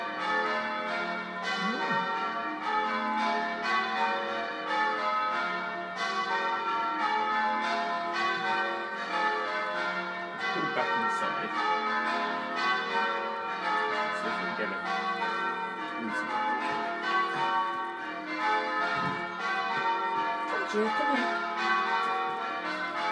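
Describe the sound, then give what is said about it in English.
Church bells peal continuously for the whole stretch, many strikes overlapping into a loud, ringing wash of tones with a steady, rolling rhythm. “I'm going to watch those bells.”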